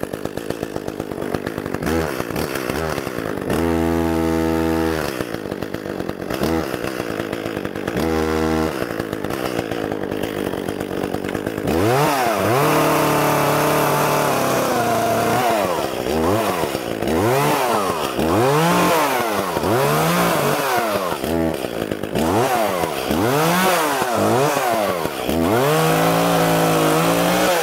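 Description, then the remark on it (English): A chainsaw idles and revs in short bursts, then bites into wood with a loud, steady roar that repeatedly bogs down and surges as it cuts through the tree. No voices. “I shall now commit first-degree lumberjacking on this poor tree. Happy Earth Day, Sam. Fire up the chainsaw.”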